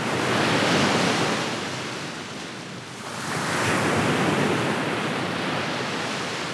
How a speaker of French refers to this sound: Une sorte de rythme faisait de ce bruit une mélodie terrible. Le rivage vibrant sous le coup de vagues répondait à la haute mer retentissante.